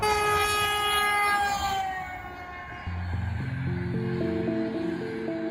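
A long-distance train travelling through Russia to Buryatia rumbles along steadily, opening with a long, sustained horn-like tone that fades after a couple of seconds, followed by a rising sequence of stepped tones over the continuous low roar. No talking.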